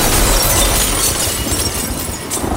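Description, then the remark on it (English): Loud glass shattering as an apartment window blows inward in a 60-mile-an-hour storm, a dense crash of breaking and scattering shards over a roar of rushing air that fills the whole moment. “It makes an insane noise, it shatters glass, wow.”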